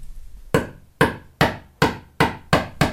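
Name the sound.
hammer striking a nail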